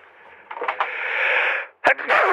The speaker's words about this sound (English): All right, I feel like I need to sneeze, and I can't.